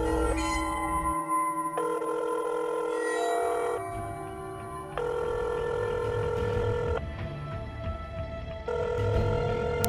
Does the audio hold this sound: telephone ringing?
yes